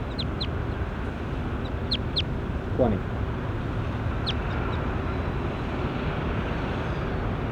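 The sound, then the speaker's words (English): Short, high-pitched chirps from a bird being recorded, bird 21, come in quick pairs and small clusters over a steady rushing background noise, while a man briefly speaks one word partway through. “Stop. Start recording bird 21.”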